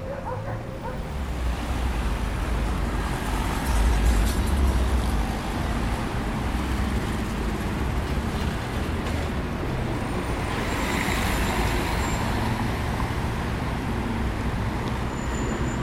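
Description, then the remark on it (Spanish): Steady, loud roar of heavy city street traffic at Plaza Italia at 1:30 in the afternoon, an open area with much traffic, fills the whole recording, with engines rumbling low and a dog barking now and then amid the constant din. “Plaza Italia, 1:30 de la tarde. Es una zona abierta de mucho tránsito.”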